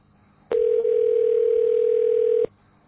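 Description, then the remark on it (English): A telephone dial tone hums at one steady pitch for about two seconds after a call is hung up, starting and stopping abruptly, loud with no voices around it. “Hang up the fucking phone, you cocksucker. Hang up.”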